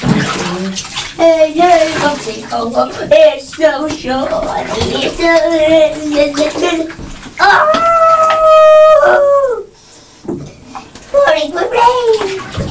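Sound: splashing water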